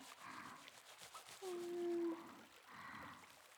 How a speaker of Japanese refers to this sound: もう一度泡立てて、